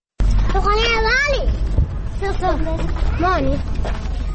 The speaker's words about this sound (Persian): صدای بازی دختر بچه هایست که دور از جنگ و ناامنی سرگرم بازی هند. اینها اطفال خانواده هایند که در یکی از کمپ های بیجا شدگان در ولایت هرات زندگی اسفباری را می گذرانند.